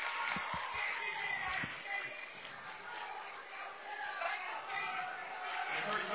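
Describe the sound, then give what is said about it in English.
A rowdy Clay County basketball crowd of black, purple, and gold fans roars and chatters continuously, a dense wash of cheering voices with a few low thumps of the ball bouncing early on. “Maybe it's just because we're in the midst of the black, purple, and gold faithful tonight, but this could be the rowdiest I've felt a Clay County crowd this year. They're pretty rowdy right now.”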